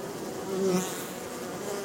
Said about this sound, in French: Fermons les yeux et écoutons les abeilles, les différentes sonorités qu'elles sont capables de produire.